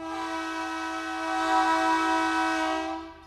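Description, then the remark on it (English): A passenger train's horn sounds at a road crossing, one long, unbroken blast, loud, its brassy chord holding steady before it trails off at the end. No voices are heard. “He explains that blowing the horn at a road crossing isn't determined by each engineer's personal touch, but rather federal regulations.”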